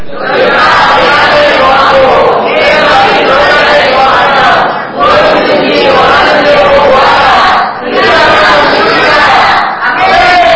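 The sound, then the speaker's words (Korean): A large crowd loudly shouts a scripture passage in unison once more, louder. Their massed voices fill the space in several long surging bursts with brief dips between them, overpowering. “이 말씀을 믿어 지금 다시 한번 더 크게 외치면서 내 귀를 제목이 돼도 그렇게 한번 다시 본다면 시작.”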